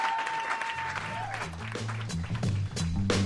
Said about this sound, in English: One more round of applause for your round one competitors. Thanks, gang.